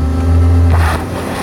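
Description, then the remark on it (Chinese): A stuck car without snow tires revs hard and steadily as the driver floors the accelerator, a loud low droning strain with a rising whine midway, its wheels spinning without grip. No voices. “我们试着铲土给轮胎增加摩擦力，轰油门，”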